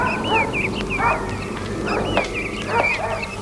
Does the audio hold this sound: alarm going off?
no